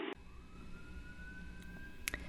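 police car siren

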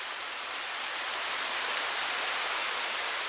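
waterfall

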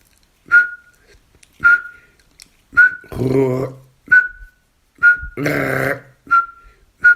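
nightingale contact call

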